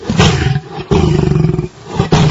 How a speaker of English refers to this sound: So that's the normal sound, but there's the real sound of a cat. This is the real sound. Slow it down, and this is what they sound like.